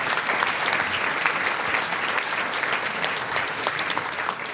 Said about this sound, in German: Jawohl, das ist euer Applaus. Dankeschön.